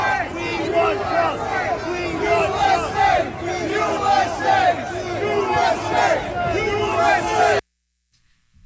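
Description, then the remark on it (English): A big crowd at a rally in New York chants 'USA' in loud unison, many voices roaring together for about seven seconds before the sound cuts off abruptly into silence. “They're screaming USA.”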